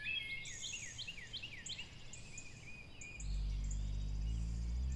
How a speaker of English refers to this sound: All you hear is just the wind rustling through the leaves and the songbirds singing their songs.